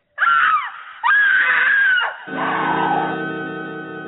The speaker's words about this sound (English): It had happened while we were talking. The scream came from the bridal chamber.